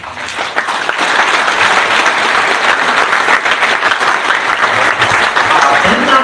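A crowd applauds steadily for about six seconds, dense overlapping claps forming a loud, even wash of sound with no pauses and no voices.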